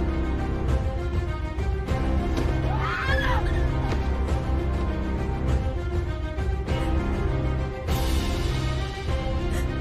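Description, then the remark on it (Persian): Frantic screaming and shouting rise over a loud, dense clamour, with one shrill cry swooping up and down near the middle before the commotion carries on to the end. “واسه چی داری اینطوری جیغ و داد میکنی؟”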